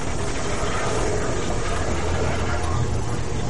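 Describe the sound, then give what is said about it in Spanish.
A steady, loud hiss of steam venting from a tank in an archive, broad and rushing with a low rumble underneath, holding constant without pause for the whole stretch. “En el archivo, un depósito expulsa vapor.”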